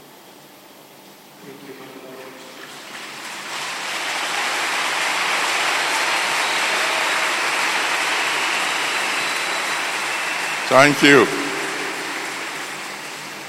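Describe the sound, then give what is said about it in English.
A crowd claps steadily in a dense, rain-like wash of applause that swells and holds for several seconds, with a man's voice speaking briefly before it and again near the end. “But you should be clapping tomorrow.”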